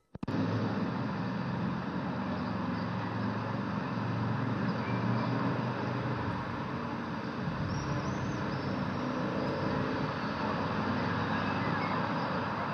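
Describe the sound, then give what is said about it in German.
Steady motorway traffic at the Germany–Netherlands border crossing near Aachen rumbles on without a break on the other side of the border hut, heard from a window niche of the old customs building: a broad continuous wash of engine and tyre noise with no voices or distinct nearby sounds. “Der Verkehr fließt nicht hier, sondern auf der anderen Seite des Grenzhäuschens.”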